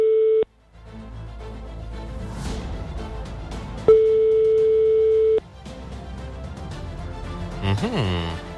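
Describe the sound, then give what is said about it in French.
Two steady phone ringback tones sound during an outgoing call, a brief one at the start and a longer one a few seconds later, with low background noise filling the gap between rings. “Déjà deux sonneries, la troisième, est-ce que ça va répondre ?”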